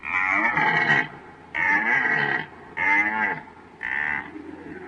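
A red deer stag roars during the rut, four loud, drawn-out bellowing calls of about a second each, separated by short pauses, with no talking.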